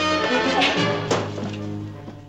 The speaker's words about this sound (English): Hengist bolts out of his chair. McCoy and Scotty try to stop him. He pushes past them. Kirk knocks him out with a punch.